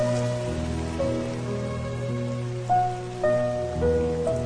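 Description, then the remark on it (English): Steady rain falls in a dense, hissing wash, with sustained musical tones and shifting chords layered over it throughout. No one speaks. “The rain begins and the whole yard empties, apart from the geese all huddled together in the far corner.”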